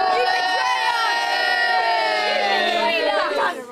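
A crowd of young fans boos loudly together, many high-pitched voices blending into one sustained jeer for about three and a half seconds before it quickly dies away.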